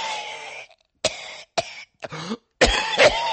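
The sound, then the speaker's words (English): A person at a supermarket, behind a shopper choosing a tomato, coughs loudly several times in quick succession, harsh, wet hacking bursts with raspy tails, the last ones run together into a longer fit. “hope you don't catch whatever patient zero is spraying all over the fresh produce”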